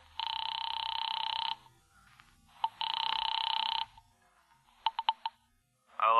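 A telephone rings in two long electronic bursts with a pause between during an outgoing call to a bookie joint, followed by a few short clicks and the start of another sound at the end; no one speaks.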